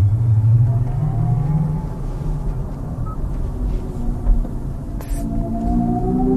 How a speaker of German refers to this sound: Für Menschen, die die Laufruhe von Elektroautos nicht ertragen können, wollen Hyundai und Kia eine Brücke bauen. Künstlicher Motorsound über Lautsprecher ist ja bereits Stand der Technik. Wir hören nochmal rein.